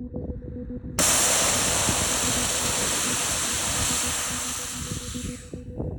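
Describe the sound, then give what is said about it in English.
Wind rumbles low against the mic outdoors on public land, then a spray can being emptied bursts into a loud, steady hiss that continues without a break for about five seconds, easing only slightly near the end. “It was windy, and the spray dissipated almost as soon as it left the can.”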